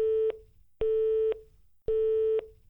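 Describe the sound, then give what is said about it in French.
A telephone busy tone heard in a handset after the other caller hangs up: steady electronic beeps switching on and off in an even rhythm, about three pulses, clear. “Il entendit la tonalité dans son combiné et raccrocha violemment à son tour.”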